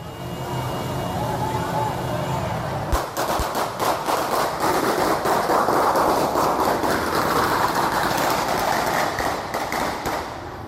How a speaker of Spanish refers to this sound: Son pistolas, ven.